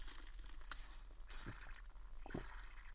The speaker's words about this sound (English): Just taking a quick sip of water, pardon me.